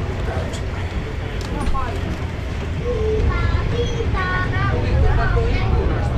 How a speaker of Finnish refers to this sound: No niin, eli olemme tosiaan täällä Ukko-Pekka-junassa ja kiskot kolkkaavat höyryn ääntä tänne, ei hirveästi kuulu tänne sisälle.